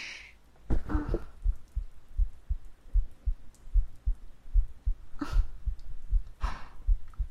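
A steady human heartbeat thuds in a quick, regular rhythm of soft low pulses, with a few breathy whooshes rising over it now and then.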